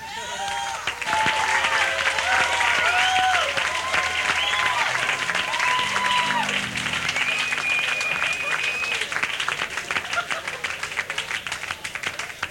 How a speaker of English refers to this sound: Thank you, my dear friends. The last time I got that great applause, I can't remember. Thank you, and what a thrill it is.